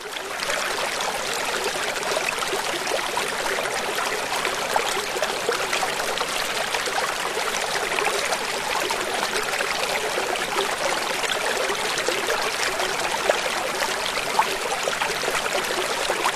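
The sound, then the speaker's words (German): A babbling brook bubbles and splashes steadily, a continuous bright rush of running water with no voices, holding an even level throughout. “Alles fließt, das Wasser sprudelt, der Bach plätschert, was für eine schöne Musik.”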